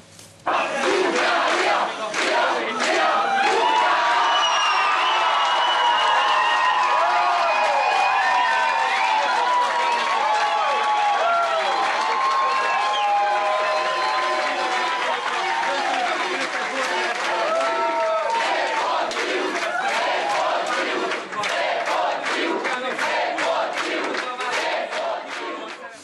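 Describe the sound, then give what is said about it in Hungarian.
A large crowd of fans in packed beer gardens cheers and shouts continuously, singing, jumping and yelling to support the Hungarian national water polo team; a dense roar of many voices with yells and chanting rising above it, steady and loud throughout with scattered claps in the later part. “A közönség énekelve, ugrálva, kihabálva buzdította a fiúkat.”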